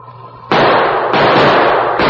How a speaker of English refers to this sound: Gunshots blasted the silence of the wilderness.